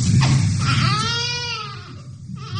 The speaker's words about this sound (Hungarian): A megszületés után az élet első jelei ezek. Az első hangok a csecsemőtől mindenütt a világon egyetemes nyelven. De hogy hol sír fel az újszülött, már nem mindegy.